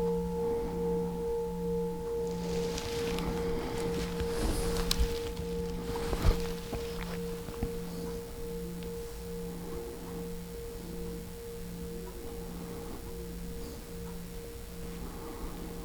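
A bell's lingering hum holds steady tones with a slow, pulsing waver in the low note, while the higher partial fades away. Brief soft rustling passes early, then the resonance drones on quietly.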